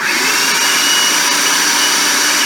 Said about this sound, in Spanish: Bueno, cocina tus frijoles negros sin sal, en agua hirviendo únicamente, y cuando ya están fríos y secos, los llevas a tu procesador o en tu caso a la licuadora, lo que tengas, ¿ok?